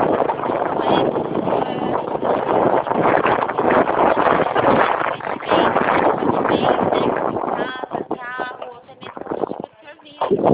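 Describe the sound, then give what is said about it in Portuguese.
Loud, steady wind buffeting and road rumble from riding a motorcycle fill the whole recording, easing slightly near the end, where a voice briefly comes through the roar. “Tô sim, eu tô chegando aqui na minha mãe, tô dirigindo na moto, mas pode falar.”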